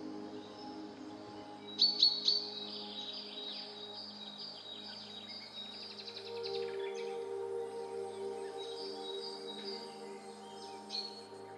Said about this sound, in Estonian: Tunne taju kujutle või mõtle kaunile linnulaulule. Luba sellel helil ennast kanda kaasa avarusse kõrgele taeva alla koos nende lindudega.